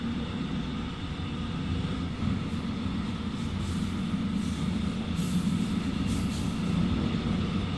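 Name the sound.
train running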